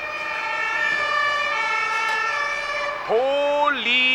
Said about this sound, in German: Nein, das sind keine Krankenwagen. Das sind Polizeiautos.